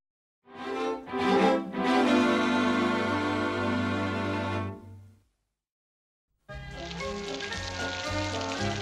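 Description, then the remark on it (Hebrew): Steady, hissing rain pours down, a dense crackling wash that stops abruptly for about a second, then starts again just as heavily. “יורד גשם. אני שונא גשם.”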